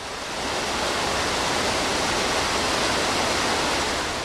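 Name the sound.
rushing water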